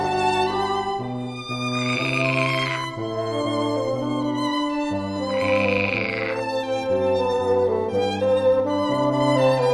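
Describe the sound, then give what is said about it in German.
Real frogs croak in two separate bursts, each lasting over a second, over steady sustained orchestral music played outdoors during an orchestra rehearsal of a frog concert piece; no one speaks. “Und tatsächlich quaken bei der Probe ein paar echte Frösche mit.”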